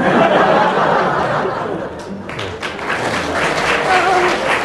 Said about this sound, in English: And the audience appreciated with a spontaneous round of applause.